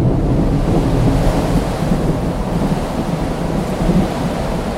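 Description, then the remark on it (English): A steady, roaring storm at night fills the air, loud, with heavy rumbling low noise and gusty wind surging throughout, like thunder and wind blowing through a casement window thrown open to the storm. “Thus speaking, and having carefully shaded his lamp, he hurried me to one of the casements and threw it freely open to the storm.”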